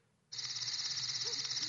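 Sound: crickets chirping at night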